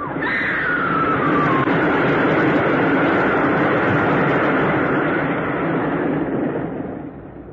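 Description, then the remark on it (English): A train roars in a loud, steady rumble, a shrill whistle sliding down in pitch near the start, before the noise eases off slightly at the end. “Oh, there's a train coming.”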